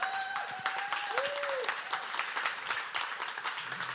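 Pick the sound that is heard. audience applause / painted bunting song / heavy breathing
audience applause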